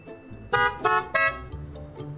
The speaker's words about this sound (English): See your neighbor out for a stroll? Give him a happy Honda honk to say hello.